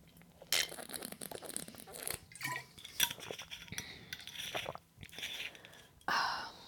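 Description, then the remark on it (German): Someone takes a sip of a drink amid crisp clinks and rustling handling noises, with a few sharp bursts and quieter slurping, swallowing sounds between them. Nobody speaks. “Fangen wir mit dem dritten an, vorher muss ich einen Schluck trinken.”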